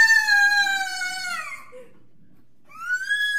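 A child lets out a long, high-pitched scream that slowly falls in pitch and trails off, then, after a brief silence, starts another shrill, rising wail.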